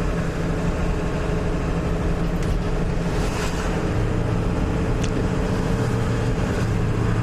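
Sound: diesel engine running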